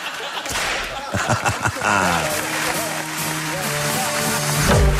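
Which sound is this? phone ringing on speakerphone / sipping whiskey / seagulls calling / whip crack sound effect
whip crack sound effect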